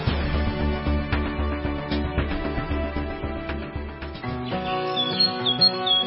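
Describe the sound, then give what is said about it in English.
Light bird chirps flutter in near the end, a few quick high tweets layered over steady instrumental music with a sustained bass and chords throughout. “The time of year for dust, pollen, busy birds, and bugs.”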